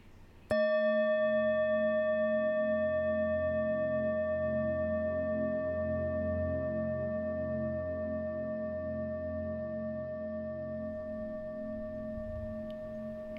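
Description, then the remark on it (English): A single meditation bell is struck once to signal the start of a meditation, ringing out with bright, layered overtones that sustain and fade very slowly over a soft, low droning background, with no talking. “There will be a bell at the beginning to signal the start of the meditation and a bell at the end to finish it.”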